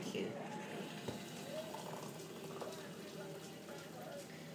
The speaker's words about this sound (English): Boil, kettle, boil.